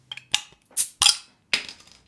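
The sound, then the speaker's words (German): A beer bottle being opened: a handful of sharp glassy clinks and clicks, then a few louder bright bursts like the cap popping off, with no one speaking. “Komm bitte, wir machen es auf, ich habe Durst.”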